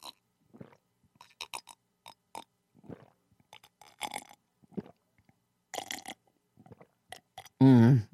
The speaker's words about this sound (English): And then I take a little sip of tea. So if anyone would like to join me right now, if you have tea with you, let's have a sip of tea on the air loudly.